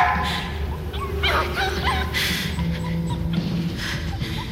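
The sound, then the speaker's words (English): A dog barks and yips in several short, sharp bursts over a steady low rumble of background noise. “Now, shut that dog up!”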